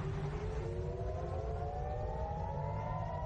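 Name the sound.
air raid sirens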